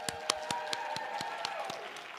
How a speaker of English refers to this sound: Can I, by a show of clapping, hear from all of the patrons, our current patrons?